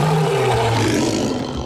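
A lion roars loudly, a deep, rumbling, drawn-out growl that holds steady for a moment and then slowly trails off. No one speaks over it.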